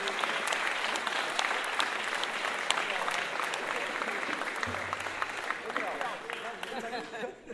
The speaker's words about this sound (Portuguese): 70 e 82 e 5, olha, encontro de gerações, um aplauso, porque isso aí é...